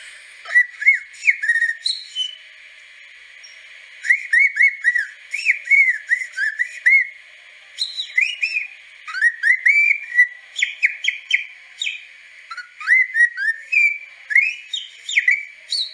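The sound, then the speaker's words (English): A man whistles an imitation of birdsong in quick, trilling bursts of warbling notes separated by short pauses. The whistling is clear and fairly loud, with no talking. “When we used to have the garden parties, he used to sit in the garden and do the whistling, do the bird impressions.”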